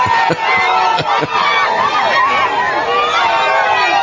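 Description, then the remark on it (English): A large crowd cheers and shouts continuously at a political celebration where Javier Milei is celebrating, loud, with a few sharp thumps or claps near the start and many overlapping voices sustaining the roar throughout. “Javier Milei celebrating. He's just, he can't stop dancing and running and cheering.”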